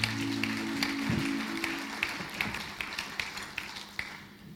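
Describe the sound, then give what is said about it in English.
Audience applause for a team, a soft wash of clapping with sharper individual claps standing out, thinning toward the end. A low sustained tone hums beneath the first second. “Why don't we just give these guys a round of applause, eh?”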